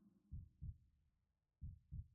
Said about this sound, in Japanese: ドクンドクンドクン、波打って脈打っている。そうやって受け継がれていく。あんたの命の鼓動でいいのかな。